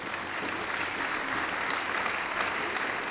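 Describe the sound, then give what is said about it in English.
Hands clapping on the Greg Chair Show in a dense, continuous patter that holds at an even loudness for the whole stretch, with no pauses and no talking over it. “I'm going to clap because I want to clap. I can clap if I want to clap.”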